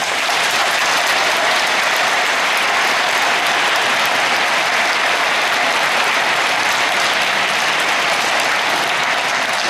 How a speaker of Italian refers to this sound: Penso che meritino un applauso.